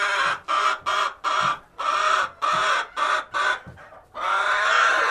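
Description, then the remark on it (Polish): Crested poultry kept by hobby breeders cluck loudly in a quick series of short, evenly spaced bursts, ending in one longer drawn-out call, with no talking. “Na bazarze nikt nie zapłaci dużych pieniędzy za takie ptaki.”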